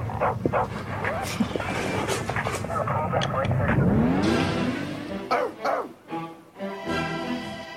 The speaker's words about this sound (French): Oui, c'est un hommage aux chiens parce que vous adorez les chiens. Ah non, oui. Oui, alors le rap du chien.